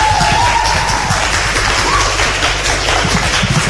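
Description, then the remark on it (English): An audience at Loretto Secondary School in Wexford Town, during a live broadcast of Southeast Radio's Morning Mix, applauds steadily, a dense wash of many hands clapping at once, loud and continuous for a few seconds with no voices standing out. “I think they deserve a big round of applause for that.”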